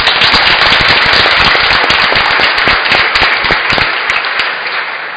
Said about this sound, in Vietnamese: Mời cộng đoàn tất cả chúng ta hãy chúc mừng năm mới với nhau một tràng vỗ tay thật lớn.